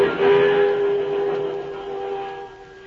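train passing by

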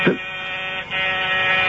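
door buzzer

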